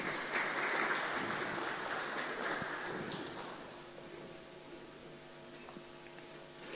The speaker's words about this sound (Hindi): तालियों के साथ हम इनका स्वागत करते हैं।